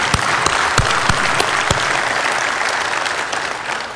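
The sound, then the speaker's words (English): An audience at a convention applauds steadily, giving God a hand clap, with dense clapping filling the space and a few sharper claps standing out early on, the sound sustained and fairly loud throughout. “I think you can at least give God a hand clap.”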